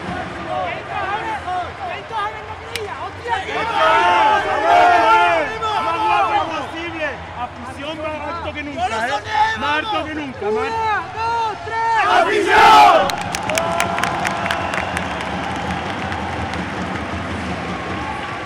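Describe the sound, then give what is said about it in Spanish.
The Aljustana team's final rallying shout: many voices yell and chant together in overlapping, sustained cries, peaking in a sudden collective roar before giving way to rhythmic clapping and scattered shouts. “Y este, el grito final de proclama de la Aljustana, que se veía con toda la fuerza del mundo para hacerse con el campeonato en ese tercer partido que se disputaría el domingo en Cabra.”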